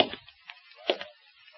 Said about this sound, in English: I waited. Then I heard the steps.